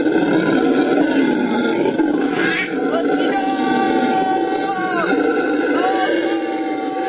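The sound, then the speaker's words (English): A howler monkey's deep, roaring howl carries on loud and unbroken for several seconds, rough and droning, with a few rising, wavering notes near the end. “This is a howler monkey.”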